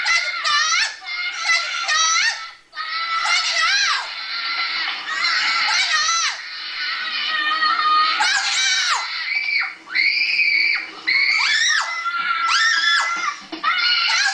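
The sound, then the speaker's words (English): Parrots in a burning house shriek loudly and almost without pause, screaming 'help', their harsh, piercing calls overlapping in a frantic, scream-like din, with only brief gaps over about fourteen seconds. “Yeah, parrots. They were screaming God, help.”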